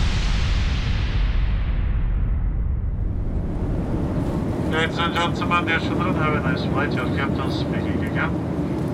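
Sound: airplane cabin in flight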